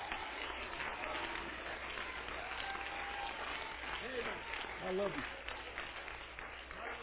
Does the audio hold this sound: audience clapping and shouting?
yes